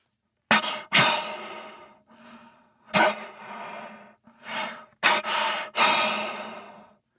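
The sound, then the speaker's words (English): A person imitates the heavy breathing of a bull elk angry at another bull: a series of about six forceful, raspy huffs and exhales, loud, with short pauses between them and no talking. “So this is more of a heavy breathing noise where he's just pissed off and breathing hard.”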